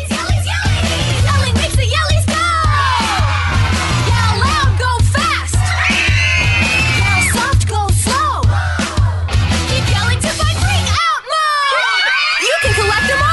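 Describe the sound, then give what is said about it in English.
A loud, hyped-up commercial jingle for a creature-on-wheels scooter toy that moves faster when screamed at, crowded with excited children's screams and shouts over a steady thumping beat, continuous throughout, with the bass briefly dropping out near the end. “Listen to the actual commercial and tell me if you're a parent, you wouldn't say, oh, hell no.”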